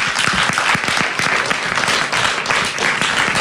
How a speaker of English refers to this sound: Lovely. Ladies and gents, big round of applause.